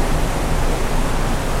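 rushing water

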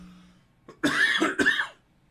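coughing

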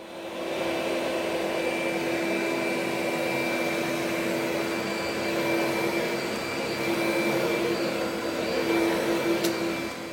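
vacuum cleaner running

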